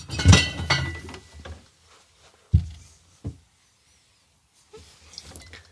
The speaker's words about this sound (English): He's having problems. There must not be anything standing out. I feel like there's nothing standing out. Yeah, that's definitely like a indecisively looking through the fridge noises.